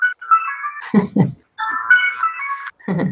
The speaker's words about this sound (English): I guess also makes it clear to viewers, this is a phone ringing and not just part of the music. Right. Yeah. They did have that at the end of Jailbreak. They used that, and then they used it in this.